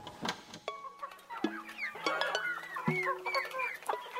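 Chickens and seven roosters at a chicken coop cluck and call over one another in a busy barnyard chorus, with short bursts and a couple of longer, drawn-out calls standing out.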